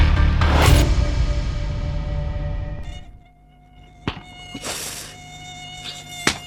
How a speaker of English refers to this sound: I don't know what to do about these mosquitoes anymore. With all the dengue fever and malaria they're carrying.